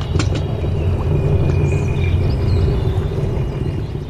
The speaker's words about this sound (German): Ein Mikrofon sammelt hier urige Geräusche. Von den Steinen, die am Grund schmirgeln und knirschen.